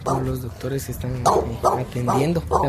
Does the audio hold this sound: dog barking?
yes